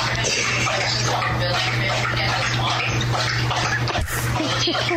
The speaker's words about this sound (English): Dog's loud slurping interrupts a Zoom meeting. Girl in California posted a video of her mom's important Zoom meeting because it got interrupted by their dog's slurping.